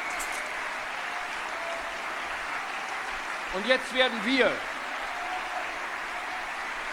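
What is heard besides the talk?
audience clapping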